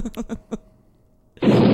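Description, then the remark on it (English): A few quick muffled pops, a brief near-silent pause, then a sudden loud gunshot-style blast erupts and its roaring noise carries on to the end, with no talking over it. “Please tell me you have a gunshot sound ready immediately.”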